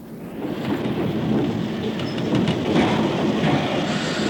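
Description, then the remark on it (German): A train rumbles steadily along the rails, a dense continuous roar with rattling, clattering wheel noise, fairly loud throughout, with no voices. “die nach einem Jahr Abschied vom Internat nahm und in den Zug stieg, der sie heimführte.”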